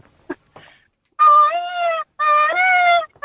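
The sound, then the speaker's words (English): A radio caller imitates a peacock's call twice in a row: two loud, sustained, wailing cries with a strong, slightly wavering nasal tone, following a few brief soft noises. “Have you actually got a peacock there?”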